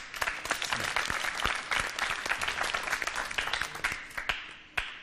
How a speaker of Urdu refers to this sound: ناظرین بھی دیکھیں, حاضرین بھی دیکھیں, ان کی حوصلہ افزائی کیجیے گا زوردار تالیوں کے ذریعے.